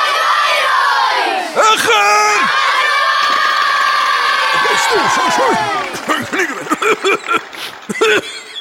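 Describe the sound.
An audience shouts together in one sustained, loud chant, then breaks into scattered overlapping yells and cries that fade unevenly toward the end.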